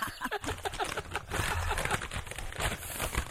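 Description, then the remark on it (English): Steady crinkling and crackling of a piece of paper being crumpled, a dense run of small rustling snaps that continues for a few seconds without any talking. “I have a piece of paper. Maybe you can't tell.”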